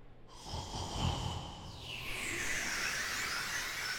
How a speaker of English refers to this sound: Actually, let me go over, and we'll... You can hear him snoring, which is funny. Hold on. Here you go.